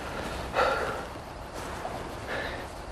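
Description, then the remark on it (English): Heavy breathing heard over a phone line, with about three audible inhales and exhales, each roughly a second apart, against a steady background hiss. No one speaks. “I can hear you breathing on the other end of the phone.”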